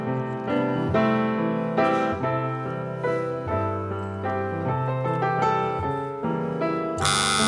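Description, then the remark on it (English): A short instrumental tune plays clearly as a musical clue in a quiz game, its notes stepping along at a brisk, even pace for several seconds before a sudden noisy burst cuts in at the end. “Colin, can we have the first musical clue, please?”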